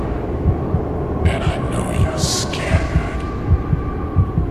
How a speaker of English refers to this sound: I hear your heartbeat from miles away.